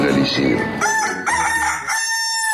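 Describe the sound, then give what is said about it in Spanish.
A rooster crows once, loud, a long drawn-out cock-a-doodle-doo lasting a couple of seconds with no other sounds around it. It is El Gallo de Radioactiva, the rooster of the radio station Radioactiva. “escucha El Gallo de Radioactiva.”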